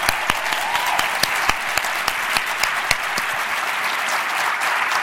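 A room full of people claps steadily, a dense wash of hand claps with sharper individual slaps popping out, sustained throughout without any talking.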